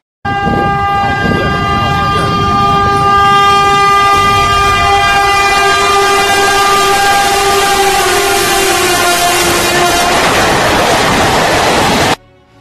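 train passing

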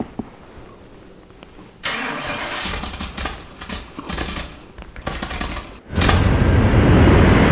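airplane engine starting up

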